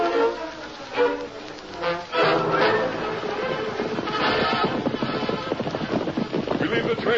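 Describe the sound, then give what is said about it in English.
Rapid galloping horse hooves pound steadily, with a rushing, windy rumble of motion around them and a few brief voices in the background. “Isn't that something riding out of the canyon?”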